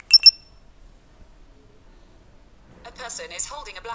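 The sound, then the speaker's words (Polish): A short electronic chime from a phone app, two quick bright tones at the start, signalling that the app is analysing what the phone camera sees, followed by a pause and then a voice speaking. “Po tym dźwięku aplikacja analizuje to, co widzi w aparacie.”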